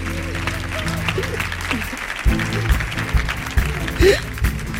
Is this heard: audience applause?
yes